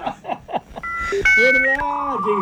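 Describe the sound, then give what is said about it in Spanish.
Dial-up modem connecting to the internet over the phone line: a quick run of chirpy bleeps, then steady high electronic tones and warbling, sliding screeches that hold fairly loud for a couple of seconds. “Así nos conectamos a internet.”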